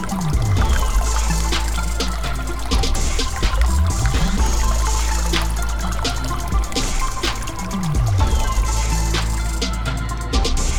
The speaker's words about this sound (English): Cool water babbling through a mountain spring, its path cut through millennia, the stuff of life.